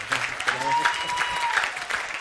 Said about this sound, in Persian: تشویق هر کی نزنه ان شاءالله در دست زدن بلند نظر بشه.